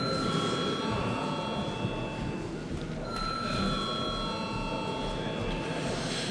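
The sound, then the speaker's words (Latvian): A steady electric bell rings continuously for several seconds, with a brief dip midway, over a murmur of background chatter in a parliament, called for just before deputies vote on a nature reserve bill. “Paldies, lūdzu zvanu.”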